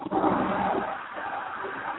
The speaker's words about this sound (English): Who's flushing the toilet?